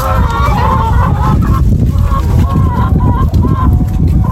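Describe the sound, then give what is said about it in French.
A flock of laying hens at the Piamo farm in Genêt, which keeps 220 laying hens, clucks and calls continuously and fairly loudly, with overlapping short cries over a steady low farmyard rumble. “Allons voir les poules.”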